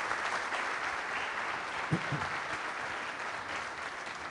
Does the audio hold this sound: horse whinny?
no